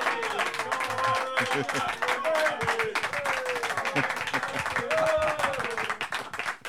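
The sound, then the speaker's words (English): A live audience applauds footballer Connor Chaplin as he is introduced as the first guest, steadily for several seconds, dense overlapping clapping with cheers and whoops rising through it, loud and sustained throughout. “They're a good crowd, mate.”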